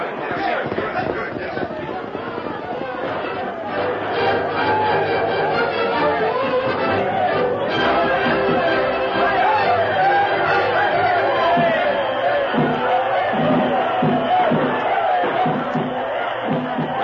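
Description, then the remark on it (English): A large town crowd throws the wildest celebration in its history as President Rutherford B. Hayes arrives on his private train, with dense overlapping chatter, shouts and cheering forming a steady, loud roar of voices throughout. “Throwing the wildest celebration in its history, President Rutherford B.”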